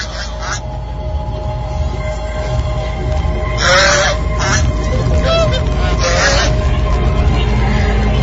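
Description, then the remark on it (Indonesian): Geese honking repeatedly in short, harsh bursts, a few calls overlapping, heard outside near a bedroom window against a steady low background rumble. “Tiba-tiba, terdengar suara angsa dari arah luar dekat jendela kamarku itu.”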